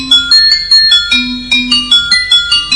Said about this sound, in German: das ist wie ein Xylophon, bloß als Blech. Da sind also diese Stückchen nicht aus Holz, sondern sind aus Blech